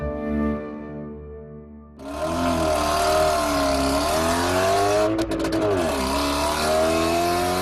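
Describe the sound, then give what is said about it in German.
A car engine idles with a low hum, then revs up loudly and keeps roaring as the car drives off, the pitch rising and dipping with each surge of throttle. “Mit dem Auto.”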